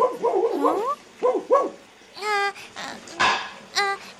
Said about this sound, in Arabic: نعم يا أمي، أسمع صوت كلب. أنا لا أعتقد أننا نمتلك كلبا في الحديقة.